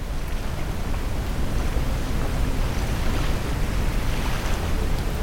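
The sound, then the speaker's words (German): A steady, broad wash of ocean surf from a calm ocean at sunset by a beach house fills the scene, a continuous rushing roar of water with a low rumble underneath and no voices, holding an even loudness throughout. “Das Rauschen der Wellen umgibt dich.”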